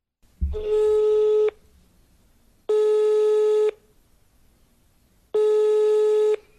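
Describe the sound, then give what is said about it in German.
A telephone line tone sounds three times as a call connects, each a steady electronic buzz lasting about a second with longer silent gaps between, loud like a ringback heard through the handset. “Es folgt noch ein Telefonat mit Melek Flögel.”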